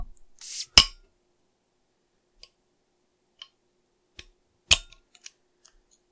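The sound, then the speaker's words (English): A bottle of stout beer being opened: a short fizzy hiss and a sharp metallic snap of the cap, then a few light clicks and another crisp clink, fairly quiet, with no talking. “So without further ado, I guess let's open this bad boy up.”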